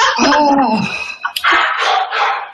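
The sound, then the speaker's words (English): A dog barks loudly and excitedly, a rapid run of sharp, yelping barks with almost no pause, then a brief break before more noisy barking. “I also want my angels to go in there and calm that dog down before I lose it.”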